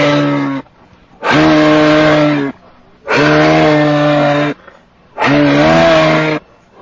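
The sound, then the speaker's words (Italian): A moose bellows four times in a row, each call long, loud and droning, with short silent gaps between them and no talking over the calls. “Vogliamo chiedere all'Alce Rufus cosa ne pensa di questo tango.”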